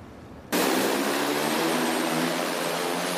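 A delivery drone's propellers start abruptly in a steady, loud whirring drone and hold constant, a dense buzzing hum overhead with no voices. The drone is delivering groceries to a family in a suburb of eastern Virginia, USA.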